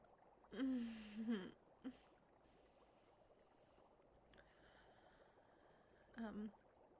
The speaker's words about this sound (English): So much dripping out.